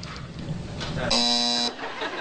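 A loud, harsh game show buzzer blares once for about half a second as a contestant buzzes in, a flat electronic drone cutting in between stretches of a voice speaking.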